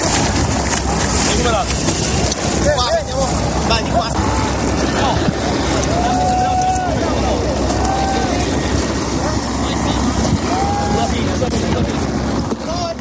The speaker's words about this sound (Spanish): Es el sonido trágico del naufragio que tuvo lugar en Lampedusa el 3 de octubre de 2013. Aquel día, 368 personas se ahogaron frente a la isla italiana y poco después murieron otras 200.